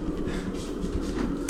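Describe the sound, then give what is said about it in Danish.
Steady low rumbling noise with faint shuffling, then a sudden sharp clunk at the very end, like a heavy locked door's latch releasing, as someone is let out of a closed ward through two key-locked doors forming an airlock. “Og man skal altså ud af to døre, faktisk. Med nøgle.”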